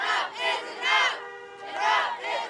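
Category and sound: crowd, protest crowd chanting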